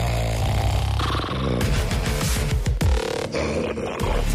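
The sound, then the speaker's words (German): Loud, rasping snoring from a sleeping person, in a recording sent in from Brandenburg, Germany, fills the whole stretch: a low rumbling drone broken by quick fluttering, throaty pulses in the middle. No one speaks. “Es hört gar nicht mehr auf, diese ganze Schnarcherei.”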